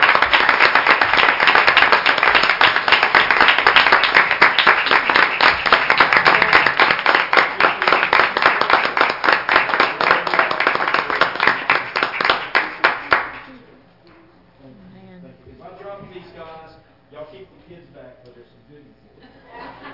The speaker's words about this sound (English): And I just want to thank them right now. So if y'all would, just want to give them a hand clap of praise.